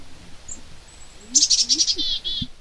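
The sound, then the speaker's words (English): A chickadee calls a quick, clear run of about six high, buzzy notes in a row on an early morning at Roxboro State Park outside Denver, over quiet outdoor background with no talking. “Oh, chickadee. Oh, let's see if it calls.”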